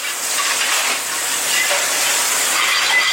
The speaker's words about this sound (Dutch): Even luisteren naar jouw keuken.